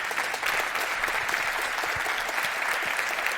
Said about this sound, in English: Let's give a warm welcome and applause